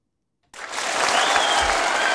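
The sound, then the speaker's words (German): After a moment of silence, a burst of loud applause starts abruptly and holds steady, dense clapping from a large crowd with no voices. “da hast du den großen Applaus für mich rausgesucht.”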